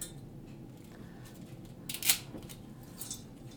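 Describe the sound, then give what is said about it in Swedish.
Dry thin spaghetti snapped into pieces: a loud, crisp crack in the middle, then a softer snap a moment later, over a low, steady background rumble with no talking. “Men jag tycker det är lättare att bryta det lite i bitar så här.”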